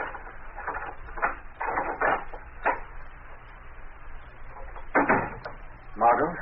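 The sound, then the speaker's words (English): A series of sharp clicks and rattles as a key works the lock of Margot Lane's apartment door, followed by the creak and thud of the door swinging open, with brief gaps of quiet between bursts. “Now, shortly afterward, Margot Lane is unlocking the door to her apartment.”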